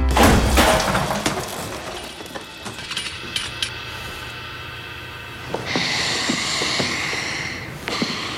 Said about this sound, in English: Why do you suppose I just hurled a chair at your head, Neiman?